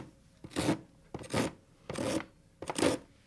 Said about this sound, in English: My dad does the honors of sawing it down. The frozen ground crunches as my father adjusts and rolls himself to get in the right sawing angle under the tree. And when everything is right, he saws away.